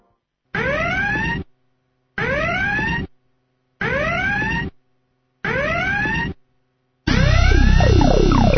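Loud electronic sirens whoop in four short rising bursts separated by brief pauses, then swell into a denser, louder blare of overlapping sirens at the end. No one speaks.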